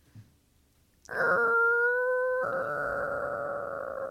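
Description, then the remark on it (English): A voice imitates a creaking door with one long, loud, drawn-out tone that holds a steady pitch for about three seconds, then turns rougher and raspier without much change until it stops. “Ooh, do a creaky door.”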